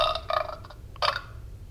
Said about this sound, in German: Damit habe ich jetzt nicht gerechnet, dass ein Rülpser aus dieser Soundmaschine kommt.